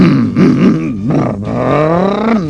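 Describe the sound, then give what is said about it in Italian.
The diesel engine of an Opel Kadett Diesel 1006 car runs with a rough, growling drone, its pitch dipping and rising unevenly for a couple of seconds, loud and steady with no talking over it. “No, non è una macchina questa, sembra una bicicletta col motorino a petrolio.”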